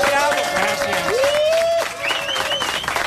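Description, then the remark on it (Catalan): A studio audience of the RAC1 show La Competència breaks into spontaneous applause, a steady loud wash of clapping with shrill whistles and cheers rising over it throughout. “En fi, gràcies per aquests aplaudiments espontanis.”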